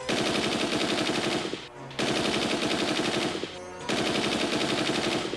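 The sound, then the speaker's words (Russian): Loud rapid-fire gunshots from a toy inflatable gun, fired at a monster in a story, rattle out in three long automatic bursts, separated by two brief pauses, with no one talking. “И с этими словами маленькая Люся растормошила спящего маленького Васю, и тот, недолго думая, выстрелил в ужасного монстра из надувного ружья.”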